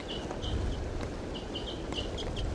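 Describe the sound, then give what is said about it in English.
A wild female bird calls in a series of short, high-pitched chirps, repeated in uneven bursts over a steady wash of background noise, with no one speaking. “This wild female starting to call.”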